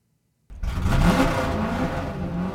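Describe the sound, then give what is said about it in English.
A half-second of silence, then a car engine roars to life and revs loudly, its pitch climbing briefly before holding a steady, throaty growl. “a quick moment of silence and an engine rev for Caleb”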